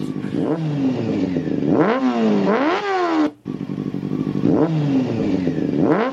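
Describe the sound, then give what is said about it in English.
A motorcycle engine revs loudly, its pitch climbing and dropping in sharp surges, then the same pattern of revs repeats a second time, with no voices. “We're both on the motorcycles yelling compliments.”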